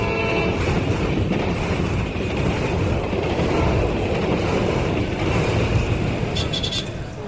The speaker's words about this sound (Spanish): Irene se fue en tren, el mismo que la vio crecer, porque su padre trabajaba en el ferrocarril.